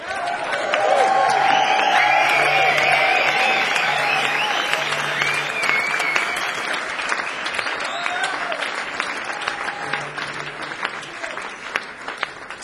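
A concert audience at a live band performance breaks into loud, sustained applause for the bass player, with whoops and cheers rising over the dense clapping, holding steady for several seconds before gradually thinning out.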